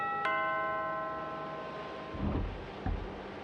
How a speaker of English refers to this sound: Well, no, there's a doorbell. I'm gonna use the doorbell.